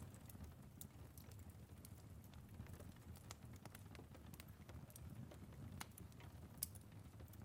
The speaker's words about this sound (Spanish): Escuchas el crepitar de la leña.